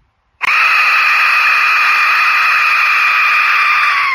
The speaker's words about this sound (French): Bien entendu, celui-là, c'est une reproduction que j'ai fait en impression 3D, mais avant de te montrer comment j'ai fait, je vais te montrer le son horrible que fait ce sifflet.